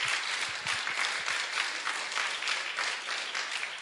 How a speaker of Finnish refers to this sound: Kiitos Martin. Annetaan pienet aplodit Martinille. Hienosti.